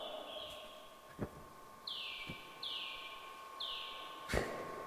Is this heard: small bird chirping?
yes